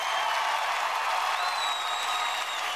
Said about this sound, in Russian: После мгновения оглушительной тишины толпа взорвалась криками, свистом и аплодисментами.